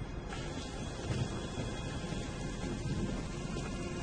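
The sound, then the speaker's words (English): Steady, dense rainfall hisses throughout, with a low, continuous rumble underneath like thunder. No voices, just the even wash of the storm. “Jacob walks. It rains.”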